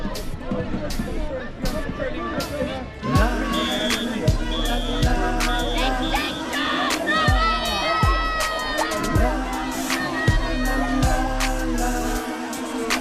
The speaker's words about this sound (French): Les manifestants, eux, scandent British Petroleum go home, BP go home.